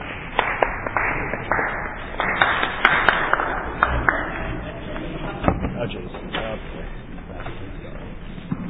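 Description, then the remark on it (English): Scattered, uncoordinated clapping from a group at a meeting after a vote passed 19 to 2 with one abstention, the claps falling out of rhythm in irregular sharp bursts over a steady murmur of background chatter, fading somewhat toward the end. “Very discoordinated clapping going on.”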